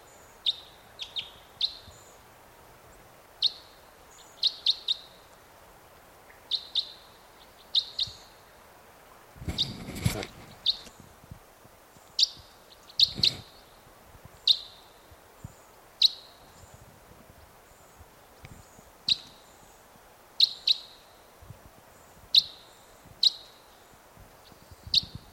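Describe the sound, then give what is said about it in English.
Short, high bird call notes, type 5 calls at dawn, repeat steadily, often in quick pairs, for the whole stretch, with a couple of brief rustling noise bursts partway through and no talking. “Sounds like there's some type 5s coming in.”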